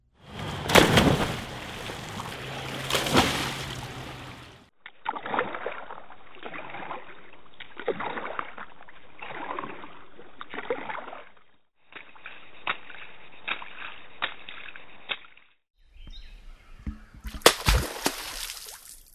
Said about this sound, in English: If you guessed that the place was the surface of water, you were right. Those were sounds of swimmers, a kayaker's paddle, feet splashing, and a beaver's tail slap. All were breaking the surface of water.